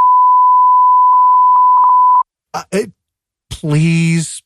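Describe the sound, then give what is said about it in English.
A steady, loud censor bleep holds a single high pitch for about two seconds, faint speech fragments poking through, then cuts off and people talk briefly. “Yeah, 100% beeping that.”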